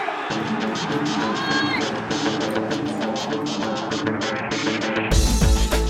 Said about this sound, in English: And that yell was me at the final whistle at Wembley. England 2, Germany 0.